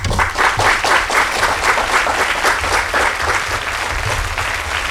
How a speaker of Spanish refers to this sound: Un aplauso a las dos.